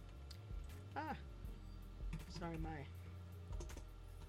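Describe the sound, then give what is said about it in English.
Scattered clicks from a computer keyboard being typed on at an irregular pace while pulling up a Bible verse from Hebrews, with a few brief voice-like murmurs mixed in. “Sorry, my little typing there.”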